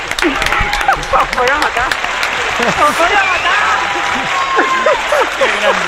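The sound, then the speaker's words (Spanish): An audience applauds loudly and steadily for several seconds during the live radio show Tiempo de Juego, the dense clapping mixed with cheers and excited voices of a crowd throughout. “Y un aplauso para la gran”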